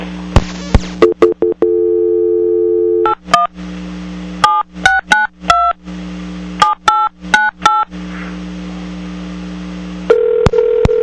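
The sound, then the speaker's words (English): A phone call being attempted: a steady dial tone, then a quick series of touch-tone key beeps, followed by a repeating busy signal. Clear, with no one talking. “Let me try the phone here again.”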